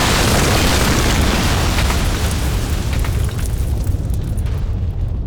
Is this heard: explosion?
yes